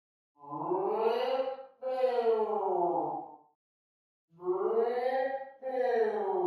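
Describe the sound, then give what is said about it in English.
A voice imitates a groan heard on a phone call, four long, drawn-out moans in two pairs, each one sagging in pitch. They are fairly loud and steady, with a silent pause between the pairs and no words spoken. “That was the phone groaner”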